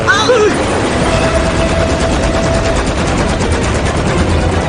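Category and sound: sound effect, video game gunfire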